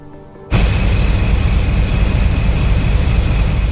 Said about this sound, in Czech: Tento motor dělá pořádný hluk. Je přišroubovaný k trupu ocelové lodi, který slouží jako buben. Přes něj se přenáší hluk o velice nízkých frekvencích. Je to ohromný hluk.